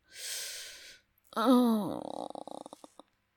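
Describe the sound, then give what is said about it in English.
A long breathy exhale, then a short high-pitched vocal whimper that slides downward in pitch and breaks into shaky, crackling breaths before fading out. “Listen to those whimpers.”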